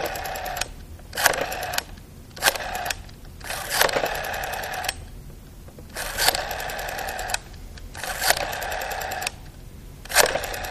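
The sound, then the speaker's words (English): A rotary telephone dial is turned again and again to call a grandmother's phone number, each pull followed by a rapid, whirring train of mechanical clicks as it spins back, with short pauses between digits. No one speaks. “And every click of the dial a sound of hope.”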